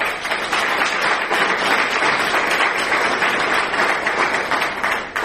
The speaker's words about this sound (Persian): خودتون تشویق کنیم.